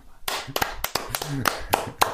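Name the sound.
hand clapping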